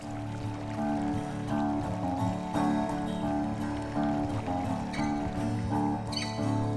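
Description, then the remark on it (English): River water flows steadily along the north side of the river, a continuous rushing wash with a low, humming undertone. No one speaks. “We're down along the river on the north side, where I come to sleep and also hike the dog and, get a little dose of nature every day.”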